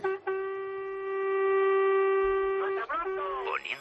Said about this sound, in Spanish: Yo llevo un trailer. A ver cómo suena ese claxon. Dale al claxon.